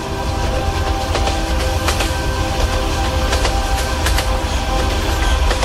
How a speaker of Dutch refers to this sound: Het is ook een stuk eigenlijk waarbij dat de trein door een tunnel rijdt. Dus subiet gaat de trein horen.